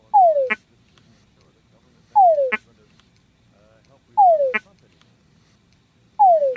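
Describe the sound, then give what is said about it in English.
Mating calls of a male túngara frog repeat four times about two seconds apart, each a clear descending whine ending in a short, sharp chuck, against a quiet night background, as a female slowly approaches. “So we just heard the sound of the Tungura frog, and you were kind of explaining the different sounds that the male makes.”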